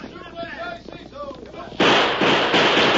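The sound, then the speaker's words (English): In a Lone Ranger radio story, indistinct voices give way to a sudden, loud blast of a few gunshots that roars on as a dense, sustained wash of noise until the end. “I'll fire a few shots to make them think I'm trying to stand them off.”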